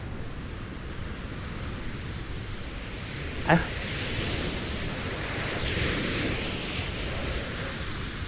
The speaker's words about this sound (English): But we're getting closer to the wave. The water, if you can hear it.